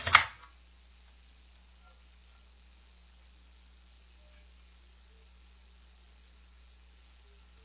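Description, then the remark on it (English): A quick click of the Enter key on a computer keyboard near the very start, pressed to submit a form, followed by several seconds of near silence with only a faint low hum; no one speaks. “So now I'll press the Enter key on the regular keyboard to submit this form, followed by the Enter key on the keypad to silence the speech.”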